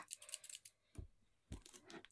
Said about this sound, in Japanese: 切れるかわかんないんだよなこのハサミ。あ、いけたいけた。